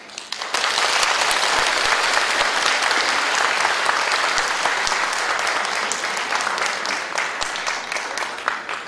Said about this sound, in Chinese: 来，好，现在我们热烈鼓掌